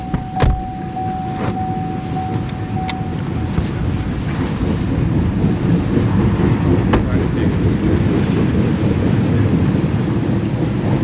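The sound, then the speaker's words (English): A BNSF freight train, an orange engine emerging from a tunnel followed by black, pill-shaped oil cars, rumbles past on the tracks north of Seattle at night in the rain, a loud, steady low roar with sharp metallic clanks and a brief horn-like tone early on, continuing without pause. “The orange BNSF engine emerges from the tunnel, and then the black, pill-shaped oil cars, one after another.”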